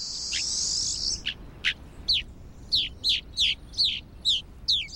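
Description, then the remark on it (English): Rosy finch calls: a short buzzy trill, then a steady series of about eight sharp, descending chirps, clear with no talking, over a faint background hiss. “Their preference for extreme environments make rosy finch populations difficult to study.”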